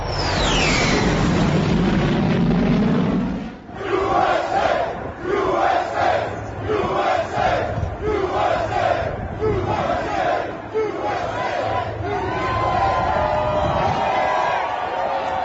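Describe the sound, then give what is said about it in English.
A large crowd at a construction site visited by Trump roars and shouts at first, then breaks into a loud, steady chant of "USA, USA," the two-beat call repeating rhythmically over continuous crowd noise. “Yeah, all of them were gathering and shouting, USA, USA, and of course, doing what they could to come over and be near Trump, get pictures if they could.”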